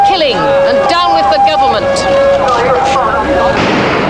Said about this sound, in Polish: Po tylu godzinach strzelania i oporu tłum nadal tam jest. Krzyczą, przestańcie zabijać i precz z rządem.